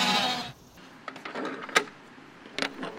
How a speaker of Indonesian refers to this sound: Alright sheep, you guys ready to come out? Morning sheep. Bah sheep. Bah sheep.